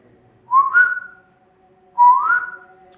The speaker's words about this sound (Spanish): Se escuchó un silbido muy a lo lejos, en las casas de enfrente, y vi que la sombra de los pies giró, como si eso que estaba en la puerta hubiera volteado hacia allá.